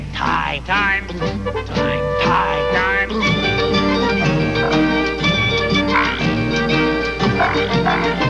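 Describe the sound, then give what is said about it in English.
Frog-like croaks repeat over a busy musical backing, with singing voices imitating the croaking amid steady instrumental tones, loud throughout. “The feeling's so good that we just gotta croak.”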